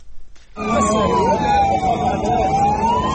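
An ambulance siren starts abruptly after a brief quiet moment and wails loudly, its pitch sweeping steadily, over a dense rumble of traffic and crowd noise, as ambulances in Gaza rush people wounded in an Israeli air strike to hospital.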